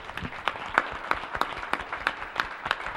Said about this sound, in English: We're very pleased with how the AV went, and so now I want to give a round of applause to Ron, who came in short notice from Sedona to put this on.